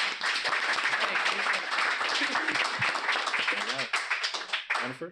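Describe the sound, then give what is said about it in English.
A crowd claps steadily for about five seconds to welcome a guest, a dense, even wash of applause with a few voices calling out and cheering in the last couple of seconds. “So can we all applaud and welcome our friend?”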